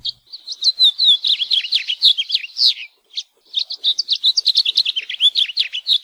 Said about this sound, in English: we've got a song that you're sure to recognize. It's from one of the most common songbirds in the islands, the house finch.